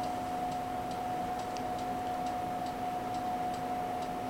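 A clock ticks steadily, roughly two crisp, fairly soft ticks per second at an even rhythm, over a constant low electrical hum with no voices.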